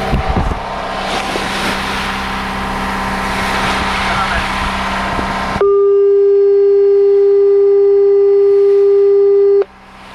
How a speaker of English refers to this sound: Do the foghorn. I will do the foghorn.